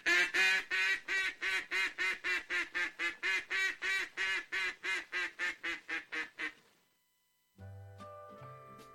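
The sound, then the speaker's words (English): A duck-hunting call is blown in a fast, steady run of about twenty loud, nasal quacks, closely imitating a duck, then stops; after a brief silence a different tonal sound begins. “So that was the duck call instructions”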